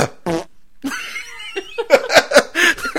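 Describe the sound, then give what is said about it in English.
A voice mimics a man's fart with a short buzzing raspberry, then a longer sputtering run of rising, squeaky bursts, fairly loud, with no other talking. “He farts and then he coughs.”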